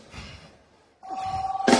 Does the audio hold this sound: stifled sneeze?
no